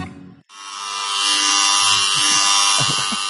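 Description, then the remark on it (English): Electric hair clippers switch on after a brief lower hum and buzz loudly and steadily, a dense, even drone with a bright metallic edge that holds for about three seconds. “I still feel like I'm getting a haircut.”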